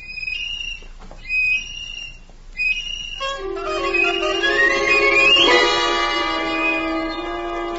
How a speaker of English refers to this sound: Now I have an adult's appreciation of how horrible it must have sounded. But at the time I felt persecuted, and it made the little tin whistle seem more important to me than ever.